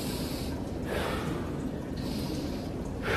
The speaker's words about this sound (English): So even if you look at breathing, I go in, my body even goes up. I go, I breathe out, I exhale, my body goes down. My entire rhythm is up and down and up and down.